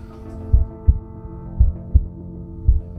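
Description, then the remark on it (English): A slow, steady heartbeat thumps in low, muffled lub-dub pairs, three beats in all, over a faint continuous hum with no talking. “And it was so quiet that I could hear my own heart beating.”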